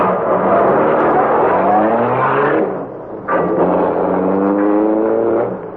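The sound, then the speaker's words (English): A car engine roars loudly and accelerates, its pitch climbing steadily, dropping briefly, then surging again as the vehicle speeds up to follow and pass another car heading toward River Road. “Speed up and pass them, Cato.”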